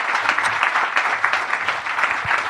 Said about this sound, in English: So obviously, a round of applause for my two wonderful co-hosts today,